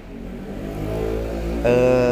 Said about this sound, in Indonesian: Tuh kan emang gila nih yang pakai motor anjir.